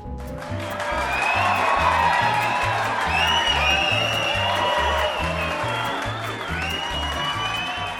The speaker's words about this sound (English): just stop right now and play the sound of our cheering fans.